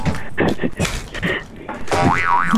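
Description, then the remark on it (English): A springy pogo stick boing wobbles up and down in pitch near the end, following a few seconds of bright, choppy vocal sounds and chatter. “Where can we deliver the pogo sticks to?”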